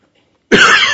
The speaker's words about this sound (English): Excuse me. Oh, that cough made me think of something else. Okay. I have asthma, as you well know, if you come here regularly, because I cough on a regular basis and I don't seem to get rid of it.